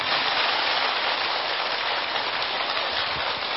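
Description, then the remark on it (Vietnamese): Steady, dense applause from an audience at an award event, called for by the host for the film's producer and actor, a continuous wash of clapping with no gaps that holds at an even level throughout, with no voices. “Xin vị dành một tràng pháo tay.”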